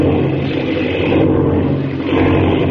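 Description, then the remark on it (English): A loud, steady engine roar with a low droning hum fills the whole stretch, swelling slightly at moments, from a propeller plane spinning out of control. No voices. “Jiminy, the plane. Spinning, it's out of control.”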